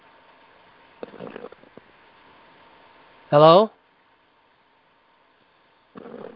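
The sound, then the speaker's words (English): A single loud, rasping snore lasting under half a second breaks through a humming phone line from a caller to a radio call-in show, with a brief voice speaking before it and again at the end. “That's called snoring that you heard.”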